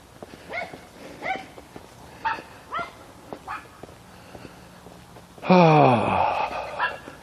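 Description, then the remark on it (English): A dog whimpers and yips several times in short, high-pitched bursts, then lets out a louder, drawn-out whining bark near the end, with no talking. “A yuppie dog.”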